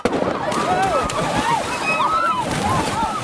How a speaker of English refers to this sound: Suddenly, there came the sound of a splash, and then another, and then, in a matter of seconds, the dock cleared, and the waters of Mystery Bay were all abroil as screams of delight and agony filled the air.